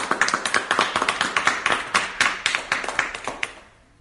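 A room full of people claps steadily in quick, overlapping hand claps, fairly close and lively, then the applause fades out toward the end. No one speaks.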